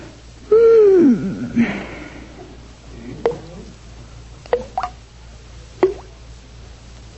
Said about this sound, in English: Oh, goodness, the faucet in the bathroom's dripping. I'll never fall asleep now.